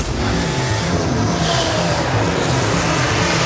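A racing engine roars loudly and continuously, a dense, high-revving growl with a steady pitch that fills the whole moment, no voices present, heard in an advert for the new Formula 1 and MotoGP season on DAZN.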